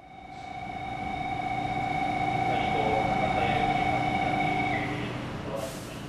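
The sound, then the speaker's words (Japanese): An electric train pulls out of a station, its steady motor whine holding several pitched tones over a broad rumble that swells and then eases, ending in a brief hiss of noise. “ほら発車するよ。”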